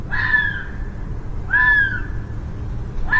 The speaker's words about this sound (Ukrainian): Так лунають лондонські лисиці, яких можна досить часто почути у житлових районах міста, переважно вночі. І навіть не лише почути, але й побачити.